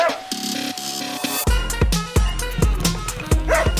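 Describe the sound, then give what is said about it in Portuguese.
A dog barks and yips in a quick series of short calls, with a busy, steady background sound swelling in partway through. “Como é que esse cachorro entrou aqui?”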